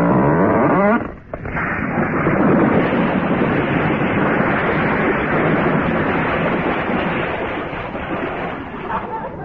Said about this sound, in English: Easy? In this weather? You're kidding. Watch it, sir. The storm's coming round. It'll clout the jetty.